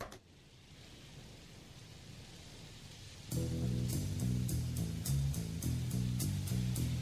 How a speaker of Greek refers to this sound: Εδώ στην Αττική καταιγίδες μας τάξανε, καταιγίδες δεν είδαμε. Γι' αυτό μου βάλανε και το σχετικό ηχητικό να το θυμηθώ.